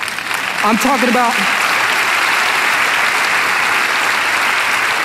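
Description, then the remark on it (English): An audience at Vineyard Columbus church breaks into applause, a dense, steady wash of many hands clapping that swells quickly and holds loud, with a brief voice rising over it at the start. “And I'm talking about, if you're gonna clap church, let's do it well.”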